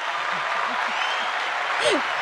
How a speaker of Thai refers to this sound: โอ้โหวันนี้เป็นตอนที่อดใจรอมานานแล้วนะคะไหนขอเสียงปรบมือหน่อยสิคะ